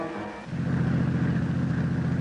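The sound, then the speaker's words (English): A heavy truck engine on a road swells in suddenly and holds a loud, deep, steady rumbling drone, with no voices over it. “look out! That truck! Turn the wheel! Go off the road!”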